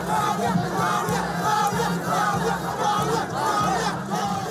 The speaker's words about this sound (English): Huge crowds of Liberians gather at the party headquarters to celebrate George Weah's presidential win.